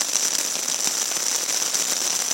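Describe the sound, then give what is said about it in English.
Heavy night rain pours down on a camp on the banks of Mosedale Beck, England, in a steady, dense hiss, broken by countless sharp little patters and splashes. It stays loud and even throughout, with no voices. “Too distracted, I forgot to turn on the recorder soon enough and only caught the downpour.”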